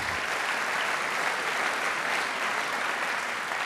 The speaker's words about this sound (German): Nachdem Sie sich nun selbst netterweise auch noch applaudiert haben, dürfen Sie jetzt als nächstes der Stadt Frankfurt, genauer gesagt dem Dezernat für Kultur und Wissenschaft, einen dankenden Applaus widmen